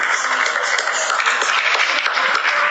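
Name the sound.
applause from balconies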